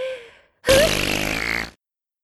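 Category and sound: human body sound, loud fart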